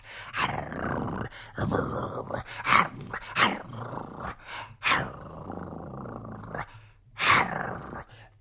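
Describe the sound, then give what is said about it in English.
A person imitates Jason the dog growling aggressively at Kincaid: a series of rough, rasping snarls in several loud bursts, with short pauses between them and no words spoken. “Jason's a very cute dog, but Jason starts growling at Kincaid, like getting really aggressive, like...”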